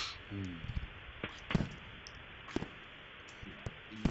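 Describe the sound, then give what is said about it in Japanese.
Fireworks go off outside, a handful of sharp, fairly muted pops and cracks spaced irregularly over a few seconds, with brief snatches of a voice in between. “誰や、花火してるやつ。 なんか花火始まったりのね。”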